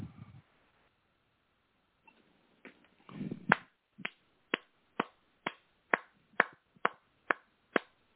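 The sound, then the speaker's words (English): A quiet stretch, then a crisp run of audience finger snaps for a performed piece, about a dozen, in a steady even rhythm, fairly loud, with no talking. “Claps, snaps, the whole nine yards for this piece right here.”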